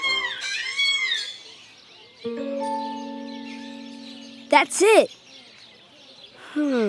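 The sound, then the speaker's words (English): An African grey parrot gives rising whistles, a long steady tonal note, then a sharp, loud squawk and more whistling. Someone briefly speaks over the calls. “This is the African gray parrot.”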